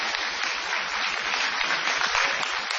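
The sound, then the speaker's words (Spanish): Sustained audience applause, a dense wash of many hands clapping at a steady, fairly loud level with no pauses and no voices on top: an ovation in the Multiteatro of Carlitos Rottenberg on Calle Corrientes 1283, continued to greet Patricio Barton. “aprovechando la gigantesca ovación que nos saludó, vamos a continuarla para saludar a Patricio Barton.”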